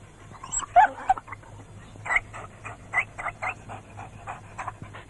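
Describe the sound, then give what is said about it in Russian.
A dog pants in quick, steady breaths, a regular rhythm of short huffs that follows a brief high whine at the start. “А вообще-то, поводок нужен, намордник и билет собачий.”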